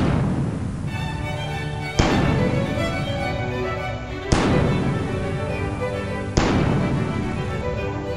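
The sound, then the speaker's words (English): Three heavy cannon blasts boom out roughly two seconds apart, each a sharp loud crack followed by a long rumbling decay that blends into a continuous dense roar. No one speaks. “I did bring out the cannon because it's time for cannon or cannon”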